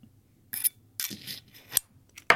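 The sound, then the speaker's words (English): A pen drops and clatters on a hard surface, giving a few sharp knocks and rattles spread over a couple of seconds, with no one talking. “I dropped one of my pens.”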